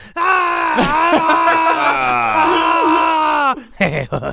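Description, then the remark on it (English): As a joking impression of someone in pain, a man's voice imitates a drawn-out pained groan that rises into a strained, wavering wail, sustained for about three seconds before breaking off into a few short, choppy vocal bursts. “This is my impression of you.”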